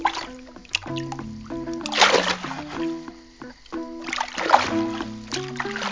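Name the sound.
water splashing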